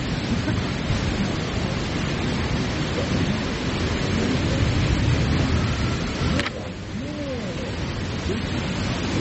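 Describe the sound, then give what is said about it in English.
A strong, steady wind roars without a break just before a sudden storm with rain, dense, with a sharp crack late on, after which the rush eases slightly and carries on. “Yeah, because there's so much wind, and if it's just rain, it's okay.”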